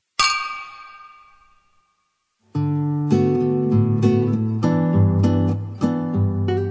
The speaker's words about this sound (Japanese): じゃあ乾杯しましょう。 乾杯。 乾杯。